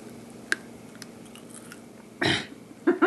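Crunchy chewing of cooked cicadas with a few sharp crackling bites spaced out, then a louder burst of munching near the end; no one speaks.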